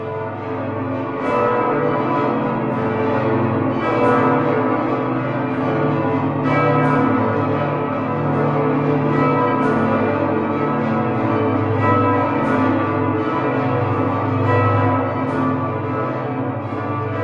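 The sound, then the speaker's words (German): Heavy multi-ton cathedral bells, cast in the late Middle Ages in front of the cathedral on the Burgplatz, ring together in a dense, continuous peal, deep booming tones overlapping with brighter strikes, loud and sustained throughout with no voices. “diese Glocken sind tatsächlich ja im ausgehenden Mittelalter direkt vorm Dom auf dem Burgplatz gegossen worden, aber tonnenschwer eben”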